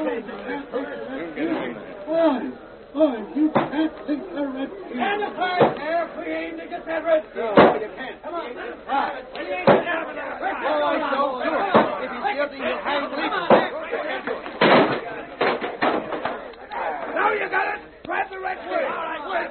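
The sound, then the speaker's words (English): A mob of many agitated men clamors loudly and continuously at the other door of a jail, coming to hang a prisoner, with sharp thuds and bangs breaking through the din at irregular intervals. “Don't you hear the men coming here to string you up?”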